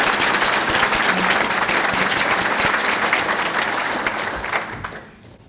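An audience at a seminary's inaugural event claps steadily in sustained, dense, loud applause for the standing inaugural committee, trustee, faculty and staff members and students, then the clapping thins and fades out near the end.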